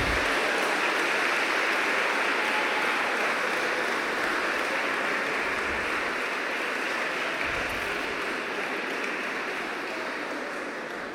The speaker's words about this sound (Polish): Kolejna kategoria, jeszcze ogromne brawa.